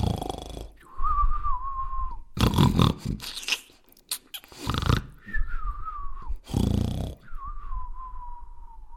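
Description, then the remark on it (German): Two giants sleeping under a tree in a forest snore loudly in a steady cycle: a rough, rasping inhale followed by a long whistling exhale, repeated about three times with no talking. “Sie lagen unter einem Baum und schliefen. Dabei schnarchten sie laut.”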